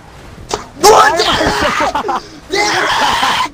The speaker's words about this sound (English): Why are you screaming, brother? I'm sorry, very brother. Competitive about my GTA races.